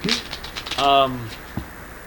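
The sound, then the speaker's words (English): A quick burst of papery riffling as playing cards are shuffled, then a short vocal sound and a soft thump, with quiet background noise throughout. “Why don't you shuffle them right now? Shuffle them right now, put my cards in there, and then give me two more.”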